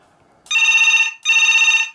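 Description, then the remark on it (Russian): A second telephone rings in two loud electronic bursts, each about three-quarters of a second long with a fast warbling trill, separated by a brief pause, clear with no voices. “Это, кстати, звонит второй телефон.”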